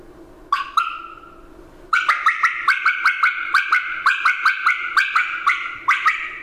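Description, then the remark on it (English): Two sharp clucks, a pause, then a quick rolling run of about sixteen bright, bubbly clucks in a steady rhythm: a Merriam turkey bubble cluck played on a call, with no talking. “A Merriam does a bubble cut and bubble cluck.”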